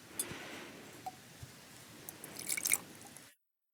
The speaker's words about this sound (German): Habe eine Farbtablette vorbereitet. Werde jetzt 15 Milliliter Wasser in das Behältnis gießen.